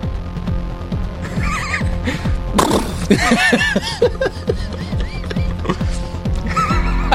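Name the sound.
horse neighing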